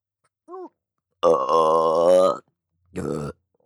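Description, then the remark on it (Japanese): A loud, drawn-out, crude burp rumbles for about a second, preceded by a tiny squeak and followed after a pause by a shorter second belch, with nothing else heard. “こんな下品なゲップなど普段なら飲んでもしないのに。”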